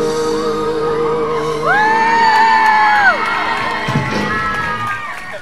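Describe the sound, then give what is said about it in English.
A large crowd in Scarborough cheers loudly and steadily, with high, sustained whoops and shrill shouts rising above the dense roar of many voices throughout. “Ooh, a bit more of a crowd.”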